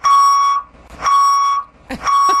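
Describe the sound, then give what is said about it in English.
A moving truck's reversing beeper sounds three long, steady, high-pitched beeps at an even pace, each about half a second long with brief gaps between. A few soft rumbles and clatters fill the pauses. “It was a moving truck.”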